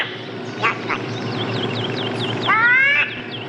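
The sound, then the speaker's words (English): A raspy, cartoonish duck voice squawks and quacks angrily in a few short bursts, then lets out a longer, louder sputtering quack near the end, as the duck is about to tee off at golf. A performer is imitating the duck. “Donald Duck is next to tee off. Actually, he's always teed off.”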